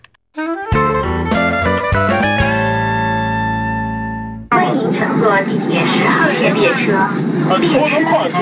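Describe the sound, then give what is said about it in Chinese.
A short melodic electronic chime of several stepped tones rings out, then gives way to loud, dense ambience in the Beijing subway, where volunteers clear away small advertisements: rumbling train noise and a bustle of indistinct crowd voices. “我们的记者最近也加入了清粘志愿者活动，来看看他们在地铁里是如何行动的。”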